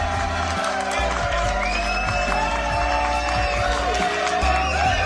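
A crowd applauds steadily for about five seconds, a dense clatter of clapping mixed with cheering and a few high whistles, over a low, rhythmic thumping underneath.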